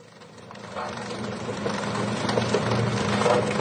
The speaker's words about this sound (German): Die beschlagnahmten Geräte zerstört das burmesische Militär mit einer Dampfwalze. Gut dokumentiert für die Öffentlichkeit, klar, und wenig sinnvoll.